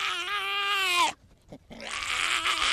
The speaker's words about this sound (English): It's a female hyena. She's about 1 year old. That hyena's name is Beta.